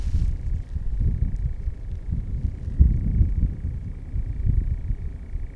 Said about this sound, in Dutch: Het geluid is echt waanzinnig. Misschien wel het vetste vogelgeluid wat... Die hoogte verschillen ook, hè?